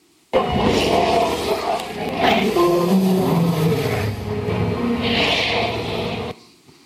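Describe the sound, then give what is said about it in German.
A long, loud dinosaur roar from the documentary series Prehistoric Planet, lasting about six seconds, a rough, rumbling growl with shifting pitched tones and a hissing edge that swells midway before cutting off abruptly. “Was die jetzt alle gemeinsam haben, das ist eigentlich immer irgendeine Form von Brüllen.”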